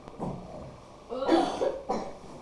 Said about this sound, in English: Oh, you have a cough, …?